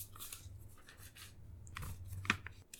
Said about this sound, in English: And I struggle to turn the page. What is actual paper? Yeah. Who prints things off these days?